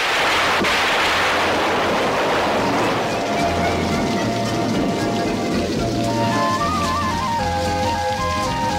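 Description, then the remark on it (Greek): A sudden heavy downpour roars steadily and loudly, a dense hiss of pouring rain throughout, with faint melodic tones emerging beneath it in the second half. “επιστρέφοντας με το φαγητό στα χέρια, την πιάνει μια ξαφνική μπόρα.”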